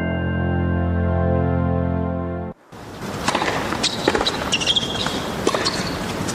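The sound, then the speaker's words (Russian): A sustained droning tone stops abruptly, then a tennis racket strikes a ball several times in quick, uneven succession, the sharp pops ringing out over a busy, noisy background. “Ракетка, м'яч, удар.”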